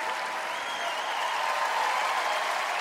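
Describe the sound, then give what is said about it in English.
Sustained, dense applause from a large theater audience giving a standing ovation at a Christmas show, steady and loud throughout, with no clear voices standing out from the clapping. “Nick claps, hanging in the air, as the audience gives a standing ovation.”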